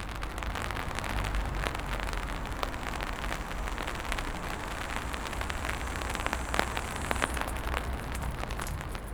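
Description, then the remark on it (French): Steady rain falls throughout, a dense wash of patter with scattered sharper drops striking a surface. No voices, just the continuous hiss and tapping of rainfall at an even intensity. “Demain, la pluie se sera effacée, mais son odeur nous atteindra encore.”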